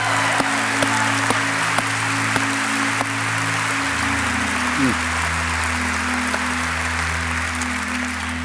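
A crowd applauds steadily for several seconds, a dense, even patter of many hands clapping at once, with a low electrical hum running underneath.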